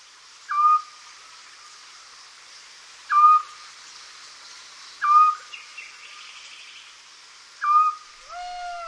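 A small scops owl high in a nearby poplar tree gives short, clear whistled notes at a slow, steady rhythm, four calls spaced a couple of seconds apart with silence between, over a faint background hiss.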